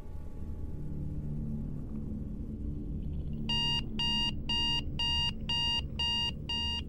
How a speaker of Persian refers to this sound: مثل هر روز با صدای آلارم موبایل از خواب بیدار شدم.